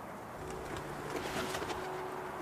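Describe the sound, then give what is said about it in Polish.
Low, throaty cooing from several pigeons left inside a dovecote near a stable after the others flew out, the soft rolling calls overlapping steadily with a faint airy background and no talking. “Wyleciały z niego przed chwilą gołębie, ale słychać takie gruchanie, więc chyba kilka sztuk zostało w środku.”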